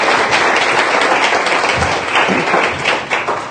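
Steady audience applause, a dense wash of many hands clapping at a fairly loud, even level for several seconds, with no speech over it.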